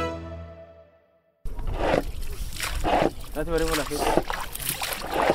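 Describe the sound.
After a short fading musical tone, water is scooped with a small bowl and splashed out of a leaking fishing boat on the Ngada Alu River in Maiduguri, northeast Nigeria, in a steady rhythm, roughly once a second, with faint voices in the background.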